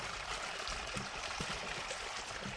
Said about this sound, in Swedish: Och det som porlar här, det är ingen skogsbäck utan ett konstruerat vattenfall som följer stigen och trapporna.